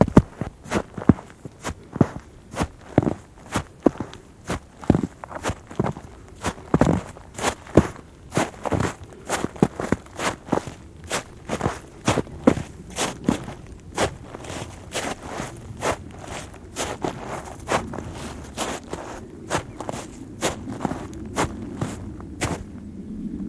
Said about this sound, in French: quel joli son. C'est le son caractéristique d'une petite accumulation de neige sous un tapis de feuilles.